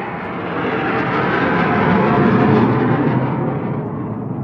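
A loud jet roar swells and fades as an F-18 or similar fighter jet passes overhead at Dübendorf airfield in the canton of Zürich, a broad rumbling noise filling the whole clip with no voices.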